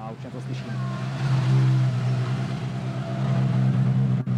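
A rally car's engine drones loudly and steadily on a rally special stage, its low hum holding a fairly even pitch with slight swells, then briefly dipping near the end.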